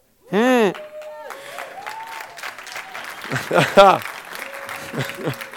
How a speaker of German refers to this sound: Oder wenn sie klatschen, um Himmels Willen. Menschen klatschen im Gottesdienst, darf man das?